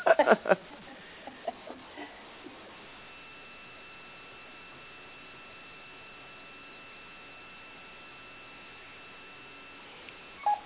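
Telephone dialing tones as a call is placed over a phone line: a few brief, quiet beeps in quick succession, then a long stretch of faint steady line tone and hiss before a short burst near the end.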